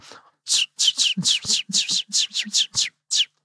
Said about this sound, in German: Hier in Berlin gibt es ja noch viele Spatzen.